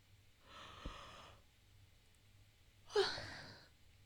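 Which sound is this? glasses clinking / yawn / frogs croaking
yawn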